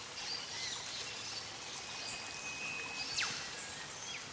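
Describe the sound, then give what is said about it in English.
A steady, soft rush of a waterfall fills the whole stretch, with a few faint bird chirps and a thin whistle rising over it. “And the rush of the waterfall is making your body go in very slow circles.”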